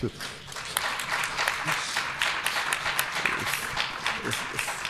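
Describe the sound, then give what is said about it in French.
A crowd at the Foire du Livre in Brive applauds an author who won two prizes over the same weekend. The applause is steady for several seconds, a dense, even patter of many hands clapping at once with no voices rising above it. “Donc je crois que ça mérite quelques applaudissements.”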